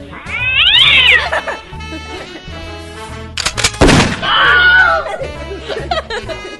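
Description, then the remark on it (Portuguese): A cat yowls loudly in long, wavering meows that rise and fall, broken by a sharp noisy burst midway, then another drawn-out caterwaul. “Olha o gato, olha o gato.”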